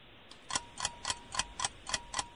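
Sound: quiz timer ticking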